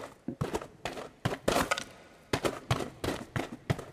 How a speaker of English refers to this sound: But you had to learn to walk with your hands. Normally you'd do it with your feet, but in radio things are a lot different. And then maybe we'll walk outside. So we'll go in some gravel.